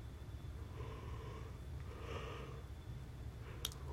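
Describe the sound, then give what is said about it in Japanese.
A single drawn-out yawn, produced on request, made of soft, breathy inhaling and exhaling sounds, fairly quiet, over a low steady background hum, with a brief click near the end. “ほら、あくび。”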